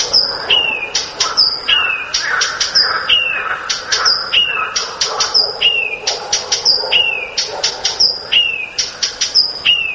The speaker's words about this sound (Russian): Вот, допустим, садовая камышовка поет на многих голосах, но обязательно перед каждым коленом вставляет чек-чек. И самочка летит на этот чек-чек.